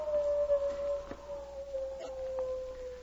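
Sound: wolves howling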